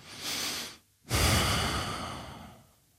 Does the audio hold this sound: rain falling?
no